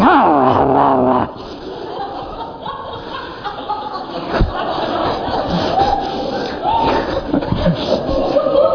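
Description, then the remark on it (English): A person imitates a dog's snarling growl, starting with a loud, strained vocal burst, then continuing as a rough, throaty rumble for several seconds, fairly loud. “But we are just inviting him to come, and all of the time we've got snarling dogs all over the place.”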